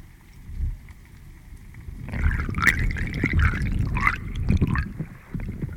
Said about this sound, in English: What does the Missouri River sound like?